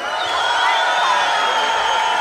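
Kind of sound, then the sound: crowd, audience cheering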